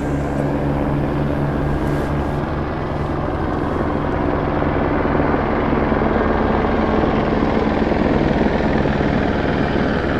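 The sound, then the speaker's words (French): A helicopter drones loudly and steadily overhead, its rotor throb and engine whine filling the air without letup for the whole stretch, with no voices heard. “Les hélicoptères pour les hôpitaux.”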